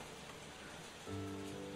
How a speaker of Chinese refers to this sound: 下雨了